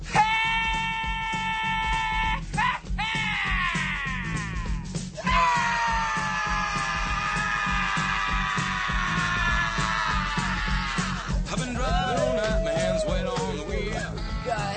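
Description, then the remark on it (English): A man lets out long, strained screams with a bleating, wavering quality, held for several seconds at a time, loud over a steady low rumbling backdrop, aired as a bit on rock radio station WPIG Aurora. “what do you say we check in with …?”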